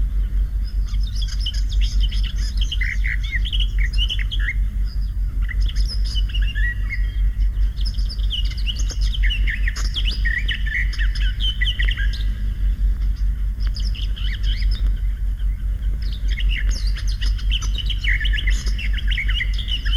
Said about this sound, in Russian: Это поет садовая славка.